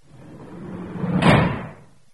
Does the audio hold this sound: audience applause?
no